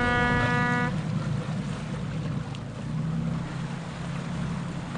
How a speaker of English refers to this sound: That's one of our boats leaving. The other two boats are docked beside that.